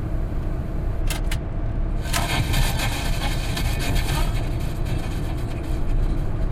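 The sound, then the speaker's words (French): Steady low rumble of a car engine and road noise from inside a moving vehicle, with a few brief clicks and rattling ticks layered over the constant drone. “Un endroit où des fois la musique se mélange avec le son des roues, de la route, du moteur.”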